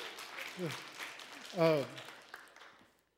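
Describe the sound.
A crowd applauds in a steady, dense patter of clapping, with a couple of brief voiced calls rising above it before the clapping tapers off and fades out.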